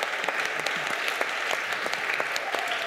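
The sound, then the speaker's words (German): A group of people claps steadily for Jesus, a dense, even patter of many hands with a few sharper claps standing out, and no talking over it. “Ich finde, Jesus ist so klasse, wir sollten mal richtig für Jesus klatschen.”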